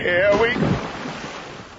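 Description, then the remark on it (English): A heavy plunge into a lake: a loud splash that breaks into churning, rushing water noise, settling into a steady wash as it fades. “Water. Felt like water. Looked like... purple soup.”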